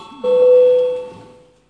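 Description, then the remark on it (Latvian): A single bell tone rings out in a parliamentary session, calling a vote on a deputy's proposal. It is clear and mid-pitched with bright overtones, holding steady for about a second before fading away. Faint low murmuring sits underneath. “Lūdzu zvanu, balsosim par pirmo deputāta Pimenova priekšlikumu.”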